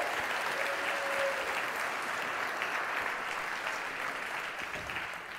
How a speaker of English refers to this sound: And overflow, I'm talking to you this morning, so give a cheer when you hear me. Actually, would you applaud the overflow right now? Woo.